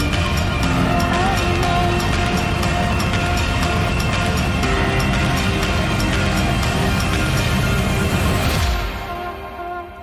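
Rocket engines thunder at liftoff after an ignition countdown, in a dense, continuous roar that stays loud and steady for several seconds, then begins to fall away and thin out near the end, with no voices.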